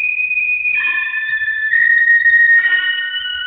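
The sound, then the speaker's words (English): A sharp, piercing whistle from the south holds steady for several seconds, loud, its shrill tone wavering slightly in pitch before it tapers off. No voices are heard. “Then from the south came a sharp whistling sound.”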